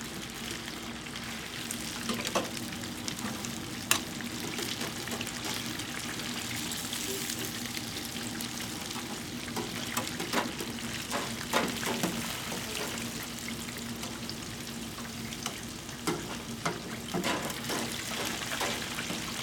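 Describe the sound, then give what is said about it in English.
A steady crackling sizzle of wings frying in grease on a grill, with scattered sharp pops and clicks over a low hum, continuous for the whole stretch. “We've got some sounds of the grill frying out there.”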